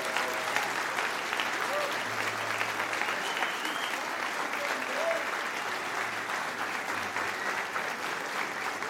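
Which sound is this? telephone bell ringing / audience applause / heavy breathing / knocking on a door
audience applause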